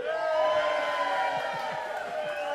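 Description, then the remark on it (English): A crowd cheers and shouts together, many voices blending into a steady, loud wall of sound that holds without letup for a few seconds. “This deserves a cheer.”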